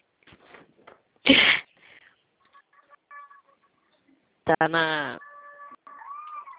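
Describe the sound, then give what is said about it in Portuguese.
Cattle lowing beside the other person on a phone call: a short harsh bellow, then a longer, loud moo with a falling pitch, heard over the phone line alongside faint beeping tones. “Eu estou ouvindo até os boi aí do lado do senhor.”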